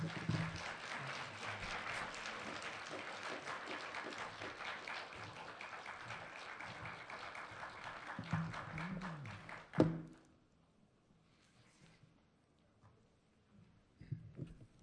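An audience applauds steadily for about ten seconds to welcome a speaker, a dense wash of many hands clapping that cuts off abruptly, leaving near silence with a few faint sounds at the end.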